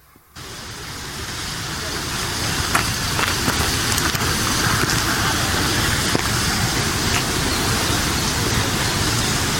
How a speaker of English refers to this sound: What's this round thing here? This is the Laxey water wheel. It is the largest working water wheel in the world.